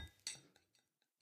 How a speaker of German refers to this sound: und das ist auch der Moment, super, wo ich mir mein Getränk endlich einschenke.